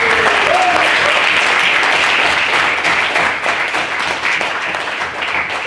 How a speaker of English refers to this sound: Thank you very much to all speakers. By my count, this evening had 5 maiden speakers. So can we first get a round of applause?